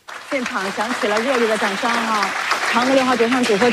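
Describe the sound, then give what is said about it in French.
Sustained applause in the control room of the Chinese space agency in Beijing at 6:23 a.m. local time, as the Chang'e probe lands on the far side of the Moon; dense and steady, with a prominent voice speaking over the clapping throughout. “Oui, vous l'entendez, tonnerre d'applaudissements ce matin à 6h23 heure chinoise dans la salle de contrôle de l'agence spatiale à Pékin.”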